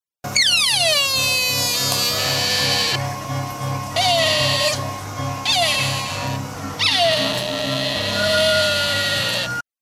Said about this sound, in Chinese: 这个时候见到路边有一只大鹿在那里叫啊。